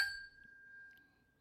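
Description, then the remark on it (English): Whiskey glasses clink together once in a toast, a bright tap followed by a clear ringing tone that slowly fades. The sound is soft, with no voices. “There are two other whiskeys here, sir. Yes. Yes, there are. Your point is? My point is cheers.”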